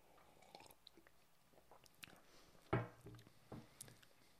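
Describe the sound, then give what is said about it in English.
A single quick slurping sip of hot French press coffee from Sunrise Coffee Collective, with faint mouth clicks and small handling noises around it and no one talking. “So here we go. One sip. Everybody knows the rules.”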